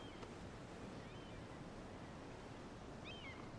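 Sea waves roll in and wash against the shore by a beach house in a steady, continuous, unbroken roar of surf, with no voices present.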